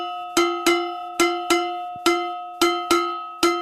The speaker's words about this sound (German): Und die Töpfe? Das ist der Topf von meiner Oma und der klingt besonders gut, finde ich.